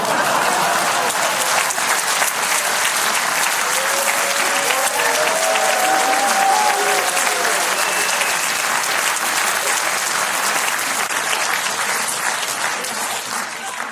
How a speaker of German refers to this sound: Da applaudiert ihr jetzt. Da bricht so ein Applaus aus. Das findet ihr lustig, oder was?